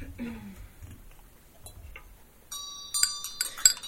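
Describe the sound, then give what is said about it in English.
A quiet stretch with a faint low voice gives way to a bright ritual hand bell, rung with a vajra during a Green Tara invocation, that rings out with a sustained shimmering tone, then gets struck or shaken several times in quick, clinking bursts. “Vajra and bell.”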